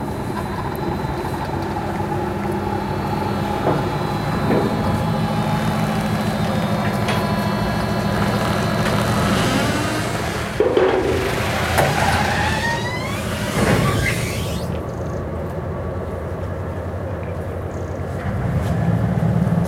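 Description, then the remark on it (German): A small ferry engine drones steadily, then revs with a rising whine as it pulls away to cross back to the other side, a crossing of roughly 100 to 200 metres, settling back into a continuous rumble. No one speaks. “Bodo wieder auf die andere Seite. Da fährt er wieder ab.”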